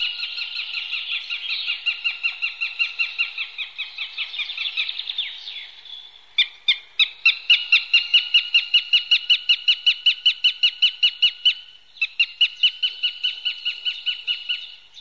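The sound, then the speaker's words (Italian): A goshawk calls, a long run of loud, harsh, evenly spaced cackling notes broken by a couple of brief pauses, with no other sounds around. “E l'astore.”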